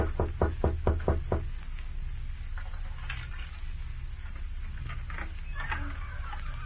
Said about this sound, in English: I knocked on the door of a den by the sea.